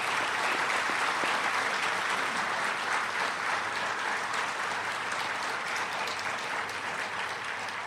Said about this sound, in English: But first and foremost, let us once again give a warm welcome and round of applause to our chief, I mean the president of this evening, Sri Sri Ravi Shankar Maharaj.